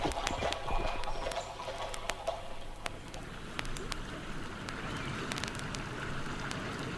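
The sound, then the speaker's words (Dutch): Steady clip-clop of the hooves of a horse-drawn mail coach on a hard road, a quick irregular patter of many strikes, over a soft gritty background rumble like rolling wheels. “Later aan postkoets of trekschuit.”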